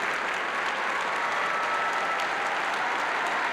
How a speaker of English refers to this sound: On his first ever visit to the United Nations in 1990, he received a standing ovation that seemed to go on forever.